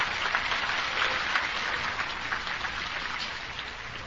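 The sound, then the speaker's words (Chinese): An audience claps steadily in thanks to Dharma Master Hui Lu, a dense, even wash of many hands at moderate volume that holds without a break for a few seconds, with no voices over it. “好，谢谢慧律法师给我们这个开始，那我们再次以热烈的掌声谢谢慧律法师，谢谢。”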